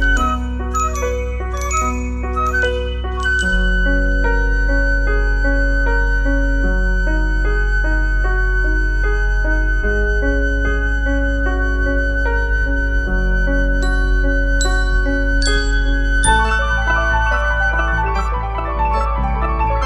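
Instrumental rock music plays steadily at full volume, with bright chiming bell strikes ringing out over sustained organ-like chords and a deep bass line, and no voices.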